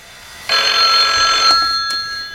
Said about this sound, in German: Schon bald klingelte in der Zentrale das Telefon.